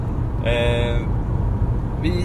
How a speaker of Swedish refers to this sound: Nu sitter vi i en bil på väg hem från Malmö.